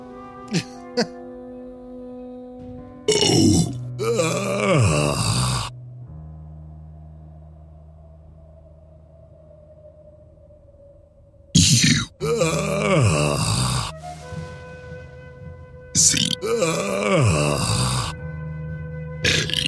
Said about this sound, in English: I can burp the alphabet.